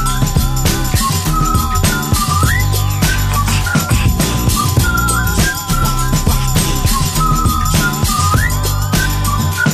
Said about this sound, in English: As I walk down the street, whistling this.